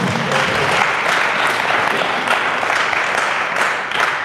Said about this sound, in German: Ja, geben wir Gott einen Applaus.